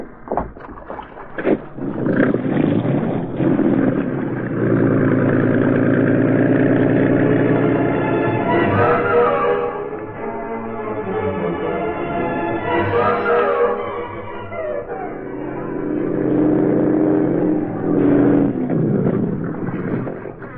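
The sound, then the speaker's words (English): The engine of a speedboat tied to the dock at the foot of 23rd Street idles with a steady, throaty mid-pitched drone, then revs up with rising pitch in several surges before settling, loud throughout with no talking. “he found the Green Hornet waiting for him in a speedboat tied to the dock.”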